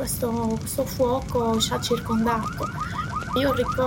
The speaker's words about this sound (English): I remember in the background the sound of sirens, because we had a smoke alarm in the facility, in the plant. Of course, the alarm started going off like crazy all night long, so I remember this noise.